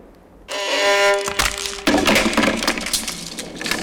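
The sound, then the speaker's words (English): A 17th-century wooden violin made by Nicola Amati at Cremona cracks and splinters as a foot goes through its bridge and the soundpost is sat on during an orchestra performance: a ringing, twanging string resonance at first, then a burst of dry, sharp crunching and splintering that carries on loudly to the end. “He's put his foot through the bridge and sat on the soundpost.”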